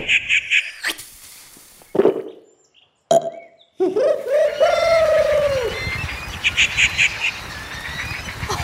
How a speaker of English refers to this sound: You know, the rufous tree-pea is part of the crow family and lives in South and Southeast Asia. It's got a long tail, eats seeds, fruit, and...